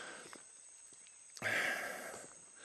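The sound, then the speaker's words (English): Heavy, labored breathing of a person climbing on foot: a quiet stretch with faint footsteps, then a loud, breathy exhale that trails off slowly. No one speaks. “Pardon the heavy breathing, but, God, that's the way it is.”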